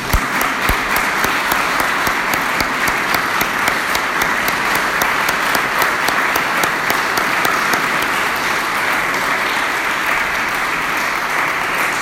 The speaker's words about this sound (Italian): Gli trasmettiamo il nostro applauso.